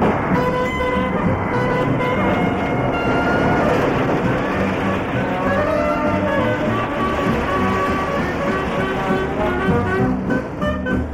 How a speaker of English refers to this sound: Oh, this is an SGME spreader machine. Concrete is tipped from side tipping lorries into it, so it travels on rails and can move along the rails, and the hopper can move across the framework of the machine.